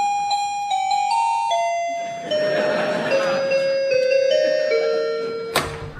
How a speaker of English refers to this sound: Well, here goes. Let's ring the bell.